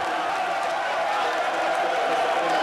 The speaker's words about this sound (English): Cheering from members of the Croatian Democratic Union, which won 59 seats in Sunday's parliamentary polling,